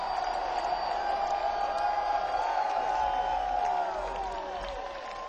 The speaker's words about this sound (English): Ladies and gentlemen, could we get a big round of applause to the man to my immediate left?